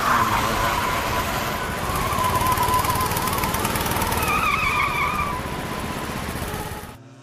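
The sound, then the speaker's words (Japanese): Loud, buzzing small go-kart engines roar continuously as karts race and overtake one another, with pitch sweeping up and down as they pass, before the noise cuts off abruptly at the end. “さあ、だんだんうまく走れるようになってきたのに、どんどん抜かれていく。”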